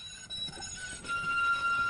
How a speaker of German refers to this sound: Die Motoren und Räder laufen mittlerweile so ruhig, dass das charakteristische Schleifgeräusch der Tram nicht mehr zu hören ist. Straßenbahnen nähern sich nahezu geräuschlos, weswegen auch diskutiert wird, sie mit gerichteten Geräuschen auszustatten